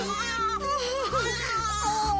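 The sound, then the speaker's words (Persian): A just-delivered newborn baby girl cries in a continuous, wavering wail, fairly loud, with shifting pitch and brief catches between cries and a steady low hum underneath. “داری گریه میکنی؟”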